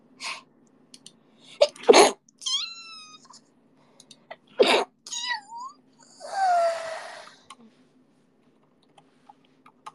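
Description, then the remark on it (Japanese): Two loud sneezes just after waking up burst out a few seconds apart, with brief high, squeaky vocal noises between them and a longer whiny sound afterward, then quiet. “寝起きってめっちゃくしゃみ出るんだよね”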